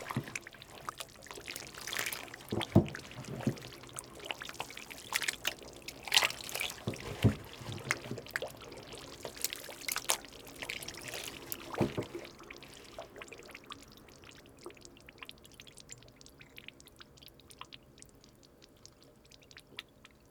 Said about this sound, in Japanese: 醤油を作る工程の中で発酵してきたもろみを解剖という道具でかき混ぜると、炭酸ガスの繊細な音がしてきます。